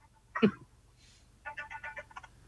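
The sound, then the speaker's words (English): A short electronic phone ring pulses in a quick rhythmic burst of several beeps, after a brief throaty noise at the start; no one speaks. “Got to get rid of my phone.”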